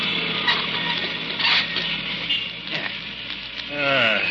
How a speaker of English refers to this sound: Excuse me, driver. Yeah? Do you mind if I shut this glass partition between us? Go right ahead, boss. You're paying the fare. Here, yeah, let me do it for you.